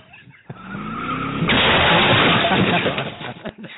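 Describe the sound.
Car tires skid and squeal loudly for a couple of seconds, a rising screech swelling into a broad, harsh scraping roar before tapering off, with voices murmuring around it.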